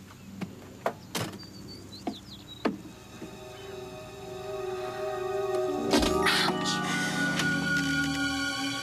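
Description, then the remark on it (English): A few sharp metallic clicks and taps as a lock is worked, followed by a long, swelling creak as a door slowly swings open, with no talking. “It's locked. Oh, well, check over the door. Maybe there's a key.”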